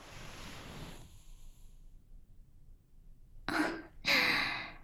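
big yawn

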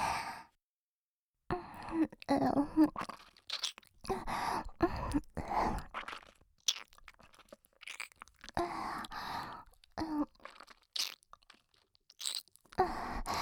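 ear licking mouth sounds

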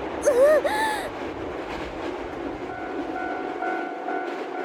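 train running on rails

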